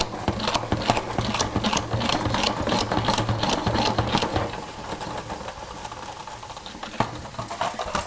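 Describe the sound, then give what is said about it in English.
A salad spinner spinning rinsed lettuce in a kitchen whirs loudly and continuously, a steady mechanical hum layered with fast plastic rattling that eases slightly partway through. No one speaks. “Finding the lid to the salad spinner.”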